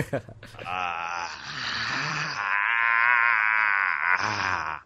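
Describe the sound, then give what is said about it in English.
A person imitates the growl of a Yoma monster from Claymore, a long, strained, wavering vocal groan that holds steady for several seconds and rises slightly in intensity before cutting off. “I was trying to growl like the Yoma in Claymore.”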